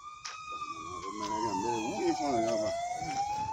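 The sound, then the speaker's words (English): An ambulance siren wails steadily in the distance, its pitch sliding slowly down and then climbing back up, heard at moderate volume, with a voice briefly audible underneath. “Ebola survivors are often traumatized by an ambulance siren whirling in the distance.”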